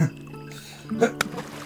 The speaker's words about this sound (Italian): Una volta ero brava a far rimbalzare i sassi sull'acqua.